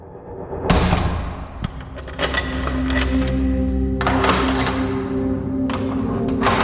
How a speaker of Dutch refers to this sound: De deur gaat dicht en op slot.